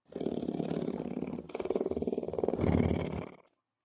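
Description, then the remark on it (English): A big cat roars loudly, a deep, rough, pulsing growl that surges twice across about three and a half seconds before cutting off into silence. No one speaks. “So you want the meow, and you want the purr. You do not want the roar.”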